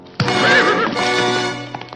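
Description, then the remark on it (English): A horse, with a man sitting on it with a rope around his neck and another man standing beside it with a whip, lets out a loud whinny that rises and trembles for over a second, followed by a few scattered clopping hoof steps as it settles. “Caswell, with the rope around his neck, sits on a horse.”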